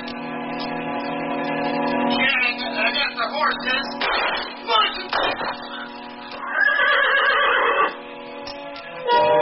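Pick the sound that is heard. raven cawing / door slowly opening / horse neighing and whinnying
horse neighing and whinnying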